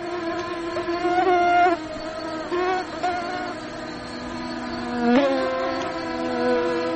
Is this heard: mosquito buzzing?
yes